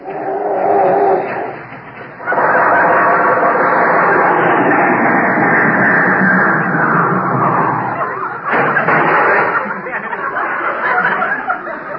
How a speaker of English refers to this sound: Ladies and gentlemen, we take you out to Jack Benny's house in Beverly Hills, where we find Jack and Rochester in the garage. I can't understand why the car won't start. Try it again, Rochester.